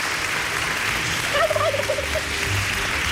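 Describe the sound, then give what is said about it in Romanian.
A voice imitates a bird's chirping with a short, warbling run of quick trilled notes lasting under a second, heard against a steady, hissy background. “Cum a ciripit? Ciripit. Ciripit.”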